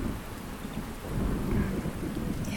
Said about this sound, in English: I just want to lay here and listen to the rain.